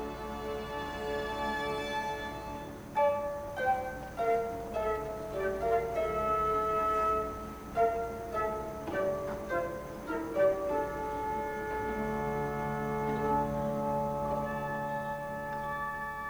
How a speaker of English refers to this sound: And now when the orchestra plays it, frozen, frozen, numbingly cold. Cello's going. Flute and harp, upper strings, no vibrato. Dead.